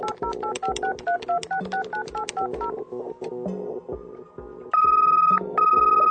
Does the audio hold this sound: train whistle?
no